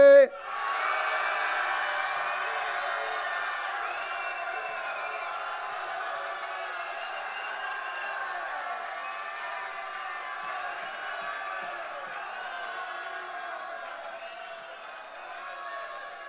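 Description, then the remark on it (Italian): A crowd cheers to vote for a contestant as winner of the final of the tenth Sherwood Hip Hop Day Freestyle Battle, a loud, steady roar of shouts and whistles that starts abruptly and holds for about sixteen seconds before tapering slightly at the end. “Fatevi sentire al 3. 1, 2, 3.”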